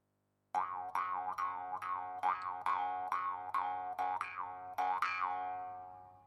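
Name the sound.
jaw harp twang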